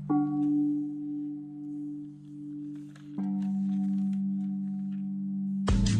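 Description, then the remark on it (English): A deep, ominous bell tolls twice, each low ringing strike sustaining and humming for about three seconds, ending in a sudden burst of noise. “I told you I wanted wind chimes, and you gave me the Undertaker bells.”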